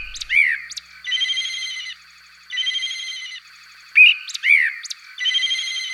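A blackbird in Stražišče near Kranj sings its territorial song, its whistled phrases alternating with buzzy, trilling bursts that mimic a telephone ringtone, repeating in a steady on-off pattern with no voices.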